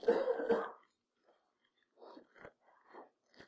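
A loud burst of two sharp coughs, followed by a few quieter, scattered coughs and throat clearings from the audience during a sermon.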